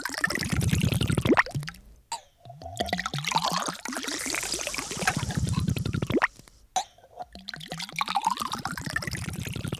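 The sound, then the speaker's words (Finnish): Sparkling rosé wine, the pourer's own latest blend, glugs steadily into a glass, its gurgling pitch rising as the glass fills, with a couple of brief pauses between pours and no talking. “Tässä on uusin sekoitukseni rosé-kuohuviiniä. Saanko tarjota lasillisen?”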